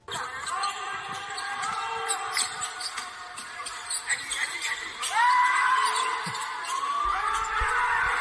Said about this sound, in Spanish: Ese que grita con estruendo es el MVP de la Liga Endesa.